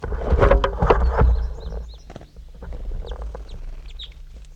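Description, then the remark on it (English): Two birds sit in a small tree right next to the recordist at 7:08. One gives a run of loud, harsh clucking calls, then quieter high chirps and short whistled notes over a low, steady rumble. “Okay, here goes bird 22 now. 22 and 23 now are in this little tree right next to me here.”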